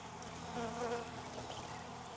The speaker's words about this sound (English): I'm not seeing a queen means I might have a young, feisty, new queen, which I have a home for if she's mated, or I could just leave her in here and move this hive a little bit and let these bees go into that other one that I just put the mating nuke.